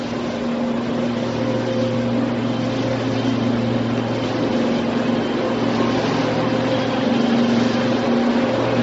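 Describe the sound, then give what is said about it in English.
A truck drives by outside, its engine rumbling steadily, a low droning hum with a faint tonal whine that holds at an even, moderate level for the whole stretch, with no voices over it. “So I'll wait for this truck to go by.”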